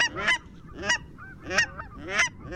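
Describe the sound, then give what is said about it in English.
A series of four sharp, nasal yelps of a cackling goose, evenly spaced about half a second apart, high-pitched, with a faint low background rumble between calls. “And the nasally yelps of the cackling goose?”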